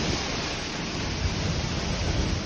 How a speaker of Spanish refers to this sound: Se puede percibir casi a la par el sonido de la lluvia y el del viento, rachas por momentos cercanas a los 100 kilómetros por hora